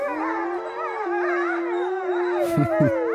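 A pack of wolves howls together on Isle Royale in Lake Superior, several long, sustained wavering voices overlapping at different pitches, with a couple of short yips breaking in near the end. No one speaks.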